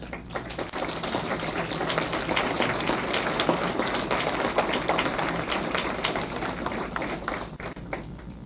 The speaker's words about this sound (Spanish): Vamos a cerrar este primer bloque. Les agradecemos a los conferencistas con un aplauso.